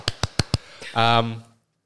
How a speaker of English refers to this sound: I got to do the clapping. Where's the clapping thing on there? Shush. No more clapping thing.